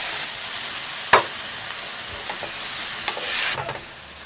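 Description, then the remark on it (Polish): Mushrooms sizzle steadily in a pan with a bright, hissing crackle, broken by a sharp utensil clack and a few scraping stirs, growing a little louder near the end. “Jak już trochę się podsmażą nasze grzyby, mamy śmietanę.”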